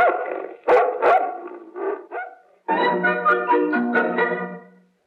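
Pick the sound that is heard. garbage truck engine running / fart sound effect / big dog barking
big dog barking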